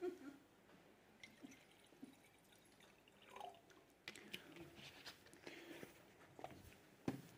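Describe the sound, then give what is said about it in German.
Water trickles and splashes into a wine glass in short, irregular bursts with small clinks and drips, quiet, with no talking. “Ich fülle das gerade mit Wasser.”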